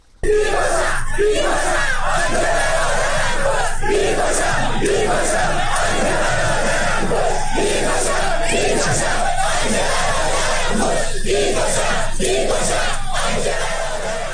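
protesters chanting slogans

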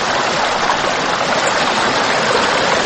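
river water flowing

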